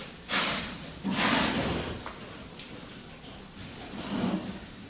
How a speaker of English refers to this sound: So maybe I close that door too.